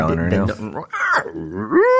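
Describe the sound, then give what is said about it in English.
A voice imitates a growling stomach with loud, warbling groans that rise and fall in pitch, briefly breaking off before sliding up into a final whiny gurgle. “But seriously, though, stomach growling...”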